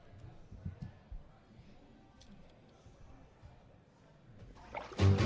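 A low, murky wash of background noise gives way near the end to a sudden loud, brief burst of bathtub water splashing.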